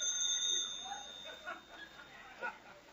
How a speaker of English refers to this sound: Wait a minute. Wait a minute. There goes the phone again.